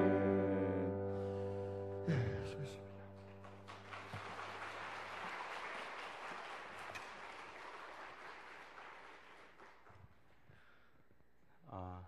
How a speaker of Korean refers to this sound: 감사합니다. 한 번 더 박수하겠습니다.